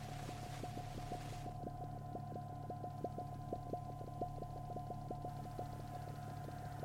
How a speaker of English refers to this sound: Trying to listen there to the pond station, but it's about time for its spring mussying up. You can hear it a little bit there.